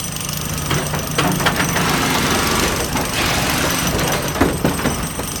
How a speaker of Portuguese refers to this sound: O ano é 2011, naquela que foi a maior transformação no centro da cidade desde o Bota Abaixo do Pereira Passos. Então, saem as picaretas e os martelos, entram as britadeiras e os tratores.